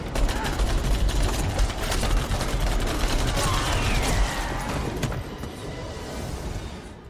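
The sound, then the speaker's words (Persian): A loud, dense volley of gunshots, fired on command at an armed person who refused to put down the gun and surrender, crackles in rapid overlapping bursts for about five seconds, then thins out into scattered fainter shots and a lingering rumble. “شلیک کنید.”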